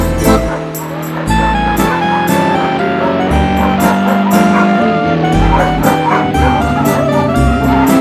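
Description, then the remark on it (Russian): Dogs bark over and over in loud, uneven bursts against a dense, steady background hum that never drops away. “С утра поют в ветвях нестройным хором птицы, шуршит листва, краснеют ярко маки, к обеду разрывают ягодицы мотоциклисты и горластые собаки.”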